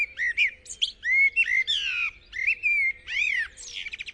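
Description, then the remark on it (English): A blackbird sings a rich, fluting song of varied whistled phrases and warbles, clear, with no voices present and only faint low background noise. “They're a classic evening songster, the blackbird.”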